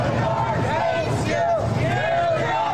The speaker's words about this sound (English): Anyway, Trump's motorcade was met by a pretty vocal crowd who welcomed him back to New York City in quintessential New York style.